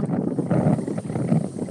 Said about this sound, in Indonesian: Iya, suaranya ini masuk lagi kenceng banget. Aku sedang di pantai.